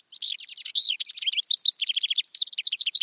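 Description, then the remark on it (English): A house wren sings a rapid, bubbling song of high chattering notes and quick trills, delivered clear with no other sounds around it. “The house wren is a remarkable songbird, successful across two continents, highly adaptable, and a steady and songful presence in our lives.”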